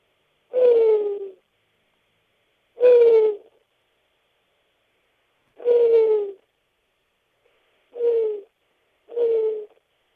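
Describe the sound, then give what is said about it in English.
A person imitates an owl with five hooting calls, each a short descending tone, evenly spaced with pauses, the last two coming closer together. Clear, with no other sounds. “this is my owl sound.”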